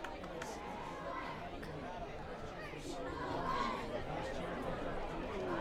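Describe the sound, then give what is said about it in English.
Dense, steady crowd chatter from about 2,500 spectators filling the grandstand at a football game between New Richmond and North, a broad murmur of many overlapping voices with no words standing out, swelling slightly louder toward the end. “Again, nice crowd today, probably about 2,500 or so. All the seats in the grandstand below us are filled, including a contingent of North player parents and family friends.”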